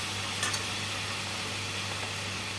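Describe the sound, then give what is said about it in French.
A steady, crackling sizzle of chicken breasts seasoned with salt and pepper frying in a well-heated pan, a constant hiss over a low hum, with a brief louder crackle early on and no voices. “Une fois que la poêle est bien chaude, tu mets tes blancs de poulet.”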